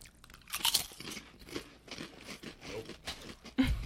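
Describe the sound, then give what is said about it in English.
Crisp, irregular crunching of Lay's potato chips being chewed, a dense run of sharp, bright crackles with brief pauses, moderately loud and with no talking over it. “Honestly, your bullshit Lays. You're fucking it up. It also tastes like farts and smells like it.”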